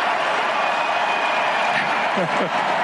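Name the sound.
crowd cheering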